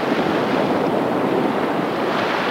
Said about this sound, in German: Das Meer in seiner Bewegung, wenn es tost, oder sich nur vereinzelt klitzekleine Wellen am Strand überschlagen und Schaumkrönchen ans Land spülen.